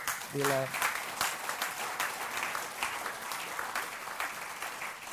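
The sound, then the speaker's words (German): A church crowd applauds their pastor steadily, a dense wash of clapping that holds at an even loudness throughout, with a brief voiced cheer or shout at the very start. “Gebt dem mal einen dicken Applaus.”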